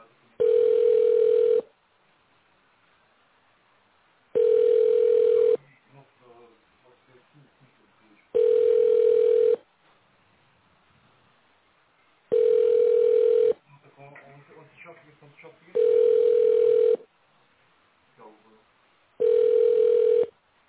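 A telephone ringback tone: six steady, mid-pitched beeps, each about a second long, repeating every few seconds with no answer. Faint voices murmur in some of the gaps.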